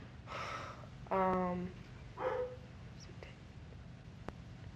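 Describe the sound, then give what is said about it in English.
A dog lets out one short, tonal bark, with soft breathy, whisper-like sounds before and after it against a low background hum. “Hush, dog.”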